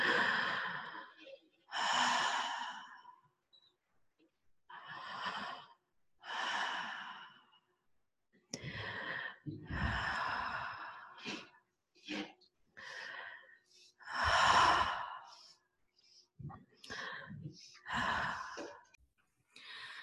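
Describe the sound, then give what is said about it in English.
Slow, deep, audible breaths in and out repeat, long airy sighs and inhalations following one another in a steady, unhurried rhythm during a guided breathing exercise, with no talking. “Keep breathing.”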